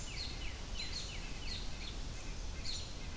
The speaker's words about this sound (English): Anyway, birds are still freaking out.